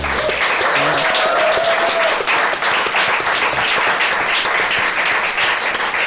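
A crowd applauds loudly and steadily for several seconds, a dense wash of clapping with a brief voice or whistle-like tone audible early on.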